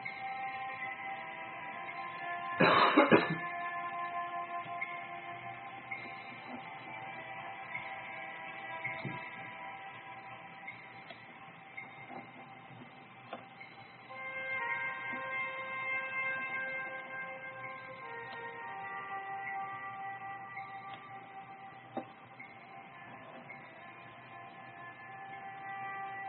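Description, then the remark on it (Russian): A faint, steady hum of highway car traffic drones on without pause, carrying a few sustained whining tones, with one brief louder rush early on and a handful of soft ticks and knocks from a door and a very quietly ticking clock. “Слышите гул машин на шоссе, дверь, часы тикают очень тихо.”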